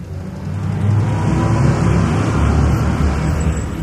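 Steady street traffic rumbles at a bus stop, a dense low engine drone with a bus-like roar swelling slightly and holding for several seconds, with no voices.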